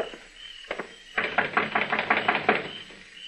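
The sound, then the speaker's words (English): Knocking on the door of a shack on Cox's Lane: two separate raps, then a fast, even burst of about nine sharp knocks, fairly loud, with a low steady hum underneath and no voices. “Knock on the door.”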